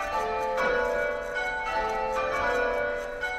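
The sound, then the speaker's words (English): Church bells ring out in a full, overlapping peal, strikes arriving every second or so with long shimmering tones hanging between them, loud and resonant with no voices. “The bells are loud.”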